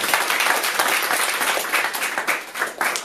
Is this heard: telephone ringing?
no